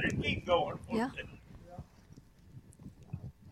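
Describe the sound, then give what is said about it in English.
Hooves of big horses clip-clop in an uneven, repeating rhythm, fairly soft, following a brief burst of voices at the start, in Etheridge, Tennessee. “Some big horses.”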